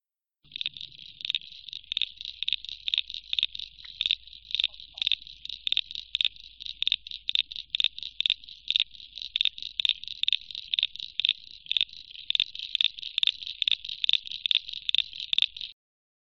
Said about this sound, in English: This next little frog that you just heard just then is the common eastern froglet. Now this is a very small little frog, and it's commonly heard around farm dams and sort of slow moving water.